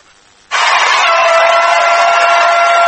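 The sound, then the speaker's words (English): A football crowd at Newark erupts into a loud, sustained roar of cheering after a brief quiet moment, the dense wall of voices holding steady without a break. “Well, as we return to action here at Newark, the crowd going crazy.”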